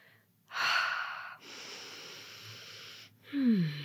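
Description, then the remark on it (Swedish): Audible shallow panting breaths drawn in and pushed out in quick succession, airy and strained like someone gasping for air, three rushes of breath with the last ending in a small voiced catch. “Grasping for air. Flämtande, fjärilsandning.”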